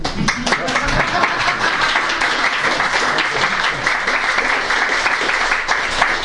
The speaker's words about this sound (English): Okay. Can we applaud?